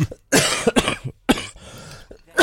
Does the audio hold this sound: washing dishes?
no